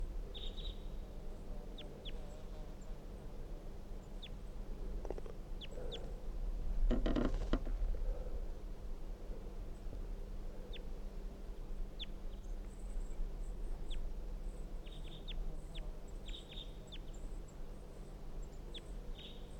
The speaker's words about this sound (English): They're recording the soft calls of the wild bird from the top of a dead pine tree.